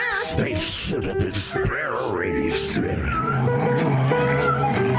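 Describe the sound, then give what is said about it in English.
A loud, agitated cat yowls and meows in wavering, drawn-out cries, mixed with harsh hissing bursts, filling the whole few seconds without a break. “Get out the kitty!”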